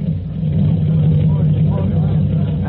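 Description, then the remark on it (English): A heavy fire engine rumbles as it backs into the firehouse after a succession of runs, its deep motor droning steadily and loudly for a few seconds with no break. “as the weary fireman, exhausted and raging from a succession of runs to imaginary fires, return again to the quarters of Engine 209. Okay, gonna go. Back her in.”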